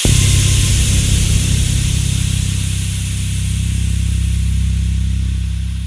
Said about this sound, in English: A loud hiss startled me out of my thoughts. It must have gotten cold outside because the steam from the boiler was bumping around through the pipes. I guess there's one sound no building can avoid, especially not old ones.